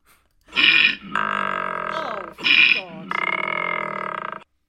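Two loud snores in a row, each a harsh rasping intake followed by a long, buzzing, droning breath out, with a brief pause between them.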